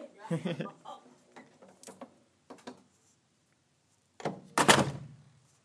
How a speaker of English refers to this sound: I'll be back in a moment. If I knock on the door, it doesn't work. And I'll leave it up to you whether you let me in or not.